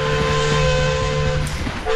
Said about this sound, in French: L'historique train à vapeur des Pignes, remis sur les rails aujourd'hui. Il reliera donc Puget-Théniers à Annotte, dans les Alpes de Haute-Provence, sur une soixantaine de kilomètres.